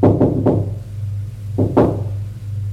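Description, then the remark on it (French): A woman knocks on a door: a quick group of three raps, a short pause, then two more, fairly loud over a steady low hum. “Elle frappe à une porte.”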